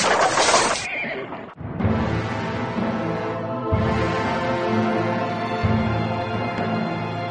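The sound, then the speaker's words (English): A loud crashing burst opens as a wagon smashes into a rock buried in snow, loses its front wheels and overturns, followed by horses neighing and whinnying in long, shrill, overlapping cries that continue loud to the end. “The wagon smashed into a great rock, buried in the snow, lost its front wheels, and turned over on its side, jammed against the rock.”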